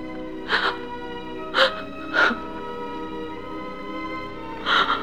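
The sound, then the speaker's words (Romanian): Four short, breathy whimpering sobs come in uneven bursts over a steady low hum, the last pair spaced farther apart; no one speaks. “Nu plânge, prietena mea.”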